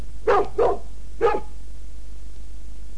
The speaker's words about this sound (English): It's a dog.